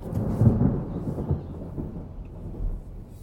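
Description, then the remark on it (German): Steady rain with a deep, continuous rumble of thunder rolling underneath, fairly loud, swelling slightly early on before settling into a sustained low roar, on the way out of the city over the A1. No voices. “Als ich mich auf dem Weg aus der Stadt über die A1 mache, regnet es passenderweise.”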